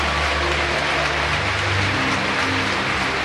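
A large stadium crowd applauds steadily as Villarreal footballer Raúl Albiol is given a farewell and greets his teammates. It is a dense, continuous wash of clapping with no individual claps standing out, holding at an even, fairly loud level throughout with no voices.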